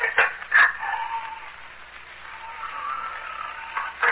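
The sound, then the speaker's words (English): A door with worn-out locks swings on creaking hinges, with a drawn-out wavering squeal between a few sharp knocks and bangs as the wind blows it open and shut, no voices. “The door. The wind blew it open and shut again.”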